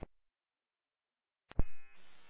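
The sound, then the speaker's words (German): An emergency alert pager tone kicks in after a brief click and a moment of silence, a bright, buzzy electronic beep holding steady and fairly loud, with no voices around it. “Wir haben eine Alarmierung kommen.”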